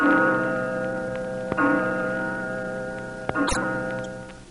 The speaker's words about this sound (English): as the clock strikes, Star, the world's largest selling single-edge razor blade, presents that noted war correspondent and journalist whose predictions of today may become history tomorrow, Wise Williams.